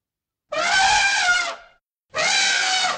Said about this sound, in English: Elephant.